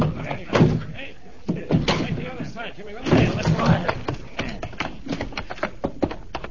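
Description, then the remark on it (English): A door is pushed in and forced open with a series of heavy thuds and a loud slam, while voices sound amid the impacts. “Push the door in.”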